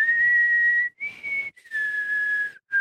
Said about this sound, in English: I can blow in or blow out and whistle. Wow. Look at what I can do with my mouth. It's impressive.